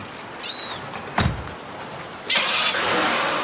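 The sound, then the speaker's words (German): A couple of short electronic chirps and a solid thud like a car door, then a car engine starts up with a loud, sustained roar as the car is driven off, with no talking. “Was dagegen, wenn ich deinen Wagen nehme, Kleiner?”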